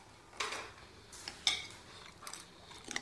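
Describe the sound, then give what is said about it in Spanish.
A fork clatters and scrapes against a food bowl as someone eats hungrily, in a few irregular, quiet clinks, one brighter metallic ring standing out midway, with no voices. “Se llena la boca con un tenedor y mastica con avidez.”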